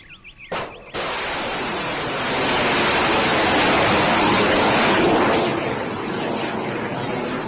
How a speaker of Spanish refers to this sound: Los cohetes Tomahawk ponen sonido a otra primavera, la del norte de África, que en Libia han brotado en forma de guerra.